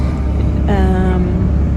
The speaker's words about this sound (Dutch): Goed nieuws, ik zit weer in de auto.